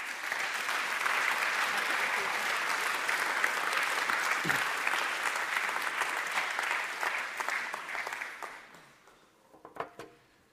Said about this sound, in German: Herzlichen Applaus.